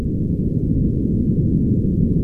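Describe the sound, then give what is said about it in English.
A deep, continuous underwater rumble of an earthquake, steady and loud throughout, with all its energy in the low end and no voices or other distinct sounds. “And then it'll be followed by the sound of an earthquake.”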